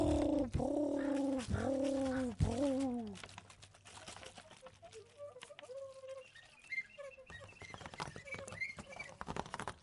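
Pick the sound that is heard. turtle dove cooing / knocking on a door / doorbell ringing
turtle dove cooing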